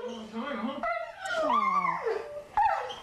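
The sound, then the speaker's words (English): A dog whimpers and lets out a drawn-out, wavering howl, rising and falling in pitch, followed by a short high yelp near the end, fairly loud. “Anybody who thinks dogs don't know what's going on.”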